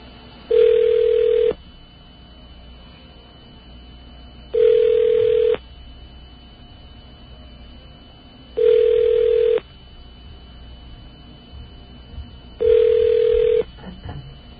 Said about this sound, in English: Actually, you know, I think all I'm going to prove is that the White House blocks our phone number. we'll see if that's still the case. Put in a little magic code here and see if it actually rings. It is ringing.